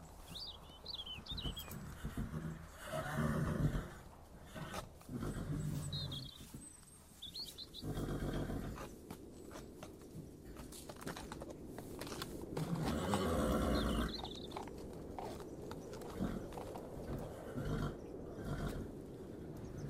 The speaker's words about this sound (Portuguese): Os cavalos estão lá fora, amarrados com cordas velhas e sujas.